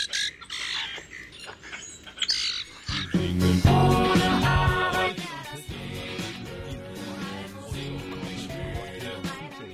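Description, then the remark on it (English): Harsh, squeaky common grackle calls sound briefly at the start, before a loud, dense mix of music with sustained tones and deep bass takes over for the remainder. “said their call was like that of a common grackle, a bird in steep decline today.”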